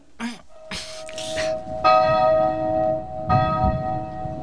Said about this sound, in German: Wir läuten die Glocken. Los, packt mit an. Helft mir.